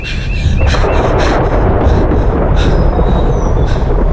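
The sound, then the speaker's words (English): Loud, continuous low rumble of thunder from a quickly approaching storm, rolling without a break, with several sharp cracks and bursts breaking through the roar. No voices are heard. “That storm is rolling in pretty quick, Cloudsy.”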